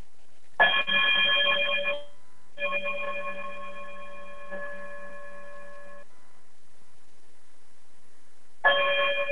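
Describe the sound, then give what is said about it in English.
A bright electronic chime sounds in three bursts, a short one, a longer sustained ringing tone, then another starting after a pause, clear and fairly loud with no talking. “definitely chime us out, and we'll see you all soon.”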